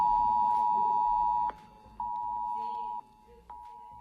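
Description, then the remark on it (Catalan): A loud, piercing mobile phone emergency alert tone, sent by authorities to residents' phones in the Balearic Islands during heavy flooding, blares in steady on-off pulses, a long sustained beep broken by short gaps and clicks, with faint voices murmuring underneath. “Per primera vegada fet, les autoritats van enviar l'alerta als mòbils a la població d'aquí de les illes.”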